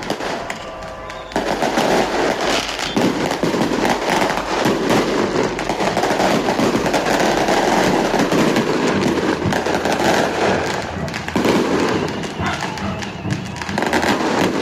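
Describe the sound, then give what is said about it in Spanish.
Fireworks set off over the last hours in view of the police, exploding in a dense, continuous barrage of cracks and thuds, starting after a brief quieter moment and staying loud and busy throughout, with overlapping pops and booms. “Esos son los fuegos artificiales que se han dado durante las últimas horas a vista y paciencia de los de la policía.”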